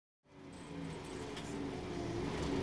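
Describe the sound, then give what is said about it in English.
An old number 78 bus approaches the bus stop on Druid Street, its low engine rumble starting abruptly and swelling steadily louder, with a rattly, grinding texture and no voices. “Look, the bus is coming.”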